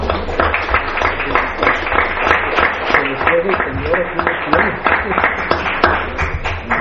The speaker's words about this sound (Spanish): Pues un aplauso de fin de año, ¿no? De fin de año.